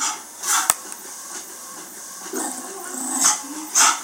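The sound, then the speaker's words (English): A dog gives a few short, sharp barks spaced out over several seconds against a steady background hiss, with no one talking. “But you can see he's got the and stay out by his bark, you know.”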